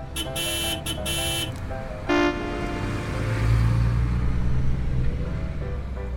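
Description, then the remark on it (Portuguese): A burst of loud, honking vehicle horn toots, then one more short blast, followed by a deep engine rumble that swells and idles like large buses pulling in. No one speaks. “E mais ônibus surgiram.”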